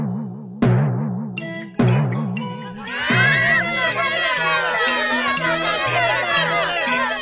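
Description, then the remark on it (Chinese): Two heavy, booming footstep thuds of Tianwanggan, a very large, heavy orange character, land about a second apart, each ringing out over a wavering low tone, followed by a noisy burst of excited crowd chatter and overlapping voices. “天王柑，你走路可以轻一点吗？”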